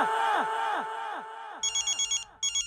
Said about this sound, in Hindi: अरे वाह, एक फोन चालू हो गया। नहीं नहीं सेठ जी, ये तो मेरा फोन बज रहा है। क्या हुआ, किसका फोन है?